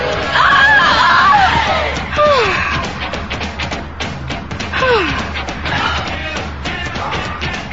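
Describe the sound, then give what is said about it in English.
A woman screams in several high, wavering bursts that swoop downward in pitch, loud over a noisy, rumbling background with short pauses between cries. “When women start to scream, it can be misconstrued.”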